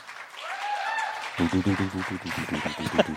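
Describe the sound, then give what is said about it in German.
An audience breaks into loud, steady applause for the answer 'I would host Aktenzeichen XY or Wetten, dass again', after a brief lull with a few rising whistle-like tones, the clapping dense and somewhat rhythmic, with crowd voices mixed in. “Euer Applaus für würde ich wieder Aktenzeichen Y oder Wetten, das moderieren.”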